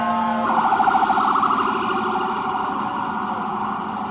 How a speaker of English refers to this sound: I apologize. I just don't like sirens while you're talking about it.